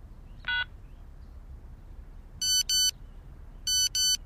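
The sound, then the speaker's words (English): A short electronic beep, then two pairs of bright, tonal chirps spaced about a second apart: a mobile phone's message alert after a SIM card is put in, sounding over a quiet background hum. “There's a message.”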